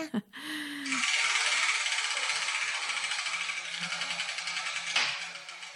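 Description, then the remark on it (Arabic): A brief rising tone gives way to a dense, steady rattling of many small letter balls tumbling inside a turning wheel, sustained for several seconds with a slight surge near the end, after which the ball for the letter Kaf comes out. “إذن سنذهب إلى محطة اليوم ونبدأ بتحريك الدولاب.”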